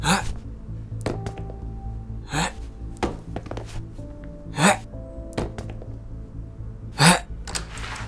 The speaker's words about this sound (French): Passez-moi donc vos chaussures, je vais les envoyer pour toquer à la porte afin de nous faire remarquer.